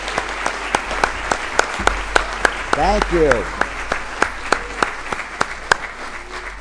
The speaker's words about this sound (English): I think we should give all of our participants a round of applause to show our appreciation.